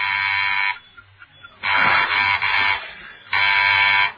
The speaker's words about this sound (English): There was a sudden coded ring at the door.